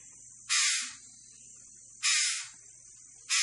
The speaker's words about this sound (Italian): E questo è un uccello del paradiso, ci dicono così.